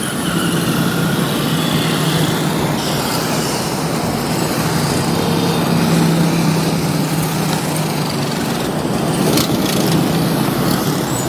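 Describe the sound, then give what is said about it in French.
A motorcycle engine drones steadily and loudly throughout, with a rough, buzzing tone and wind rush, recorded while riding a motorcycle toward Bipanda. No one speaks. “Je prends une moto, direction Bipanda, où se trouve son emplacement.”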